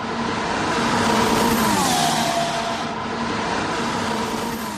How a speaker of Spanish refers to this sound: Qué bien suena el coche, ¿eh?